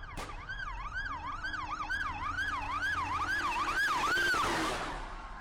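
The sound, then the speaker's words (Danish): Police sirens responding to a bank robbery wail in a rapid rising-and-falling pattern, growing louder as the vehicle draws closer, with a low engine rumble underneath and no voices. “Nu kan jeg høre sirenerne.”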